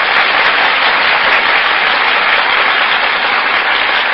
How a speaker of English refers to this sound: That applause, ladies and gentlemen, is for Annabella and Tyrone Power, who have just entered the Gulf stage and have taken their places before the Gulf microphone.